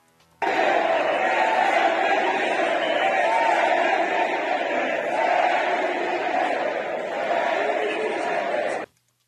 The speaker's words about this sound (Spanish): Bueno, escuche usted cómo fue recibido Marcelo Ebrard en el Palacio Minería en la presentación de este libro, El Camino de México. Vamos a escuchar el momento en que entra al Palacio de Minería y se desatan los gritos de presidente, presidente.